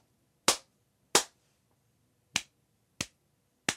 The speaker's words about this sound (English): When I clap my hands one time, the echo will come back one time. Listen.